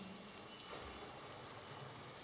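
Steady rain falls in a soft, continuous hiss, quiet and even throughout with no distinct drops standing out and no voices.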